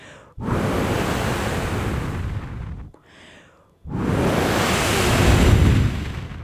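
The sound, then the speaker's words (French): Loud, roaring wind blows in two strong gusts, with a brief lull between them; the rushing noise is full, with no voices. “Petit bonhomme ouvre grand son sac et laisse rentrer le bruit du vent.”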